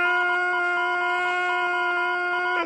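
rooster crowing cock-a-doodle-doo

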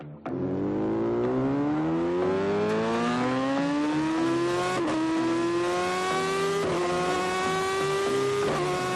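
yamaha motorcycle engine revving

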